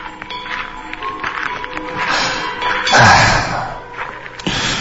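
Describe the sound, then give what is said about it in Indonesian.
Heavy boot footsteps thud and tap unevenly as someone paces back and forth in front of a bedroom at about 1 a.m., with a louder, rougher burst of scuffing midway before the steps settle again. “Karena suara gaduh dari sepatu boots yang terdengar mondar-mandir di depan kamarku.”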